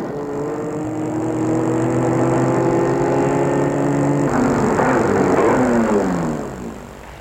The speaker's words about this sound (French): Gilles va garer la voiture dans une rue déserte.